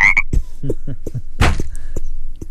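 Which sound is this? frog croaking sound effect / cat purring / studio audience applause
frog croaking sound effect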